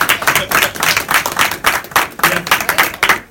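A crowd applauds steadily, many hands clapping at once in a dense, sustained burst with slight swells in intensity, fairly close and loud throughout.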